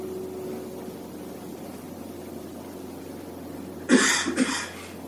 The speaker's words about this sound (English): Someone coughs, and immediately that becomes prominent.